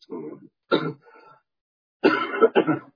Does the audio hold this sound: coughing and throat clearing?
yes